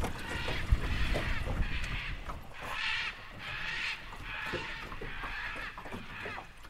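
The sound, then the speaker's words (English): Harsh, raspy squawks from a pair of scarlet macaws flying fast right overhead, repeating in loud bursts roughly every second, with steady background noise and no talking. “I jump up, almost lose balance in the boat, and whip my head around just in time to see a pair of scarlet macaws right overhead, belting out a loud squawk.”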